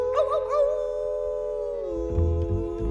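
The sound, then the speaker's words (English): Human voices let out a long, drawn-out wolf-like howl, 'ow, ow, ow', as part of a cowboy song about howling at the moon, holding a steady pitch before sliding lower near the end, with a low rumble joining underneath toward the close. “We're gonna hoot and holler and howl at the moon. Ow, ow, ow.”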